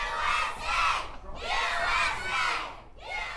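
A group of local school kids cheers on the American athletes at a luge race in Lake Placid, shouting together in three rising, sustained bursts, their high-pitched voices loud and excited with brief dips between each wave.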